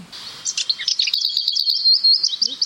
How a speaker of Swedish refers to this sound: Men ni hör före det här. Ja. Den har ett litet kvitter före. Det hör inte vi på det här hållet. Nej. För att nu dämpar vinden också. Ja. Det här är en ärtsångare. Ärtsångare? Det är en liten grå sångare.